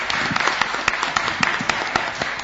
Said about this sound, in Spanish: ya que tenemos unos cuantos oyentes que se han adelantado y se encuentran en la fonoplatea, ¿por qué no los recibimos con los aplausos del caso?